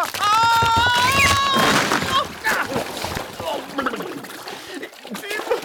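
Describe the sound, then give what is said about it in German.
A high, wavering whistling tone gives way to a loud splash of someone falling into a stream, followed by several seconds of sloshing and splattering with voice-like sounds mixed in. “Ich bin in den Bach gefallen.”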